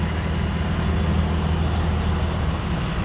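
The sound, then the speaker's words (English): A steady, loud rumble of big diesel trucks and heavy construction equipment idling and running as the road is torn up, with deep engine drone dominating and no voices. “We're getting ready to tear up the road here. So there's big trucks and equipment.”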